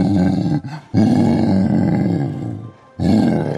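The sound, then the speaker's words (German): Deep, rumbling gorilla growls from a game's sound list, in three long bursts separated by brief pauses, loud, with no voices present. “Gorilla. Ja, wir haben einen Gorilla hier.”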